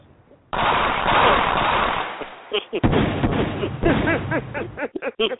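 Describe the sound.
A loud burst of rapid gunfire erupts suddenly and rattles for about two seconds, followed by a few sharper cracks mixed with a voice talking.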